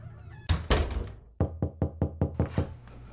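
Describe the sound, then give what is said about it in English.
Knocking on a garage door: two heavy, booming bangs, then a quick steady run of about seven sharper knocks, loud, with no voices. “Tried the front door, nobody answered, so thought we'd give the old garage door a try.”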